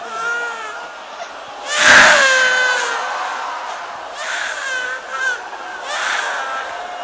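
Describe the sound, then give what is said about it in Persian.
A baby who is hot and bothered by noise cries, starting with a loud wailing burst and trailing off into several shorter, fretful cries, with no talking over them. “سختشه گرمشه، صدا اذیتش میکنه، بچه”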